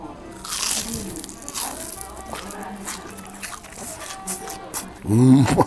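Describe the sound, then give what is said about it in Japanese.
A crisp crunch of biting into a homemade deep-fried raw whale cutlet, served with medium-thick sauce topped with mayonnaise, followed by a few seconds of moist chewing and faint crackling, with a short vocal murmur of enjoyment at the end. “衣がカラッと揚がってるんですけど、若干クジラの肉にちょっと甘みを感じるほどの、ほんとしかも柔らかくて”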